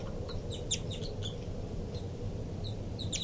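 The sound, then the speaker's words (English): A young bird gives repeated high, thin begging calls in short clustered bursts, with brief gaps between them, over a steady low background rumble. “Recording the birds again. Begging by the baby there.”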